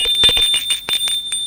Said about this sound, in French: Après-midi, qu'ils sont tous deux dans l'appartement, on sonne à la porte.